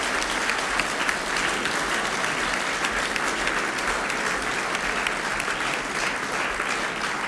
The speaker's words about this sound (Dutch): Geef vast een applaus voor het Nederlands Concertkoor.